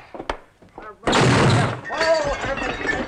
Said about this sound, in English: The myopic deaf lawman walks into the door.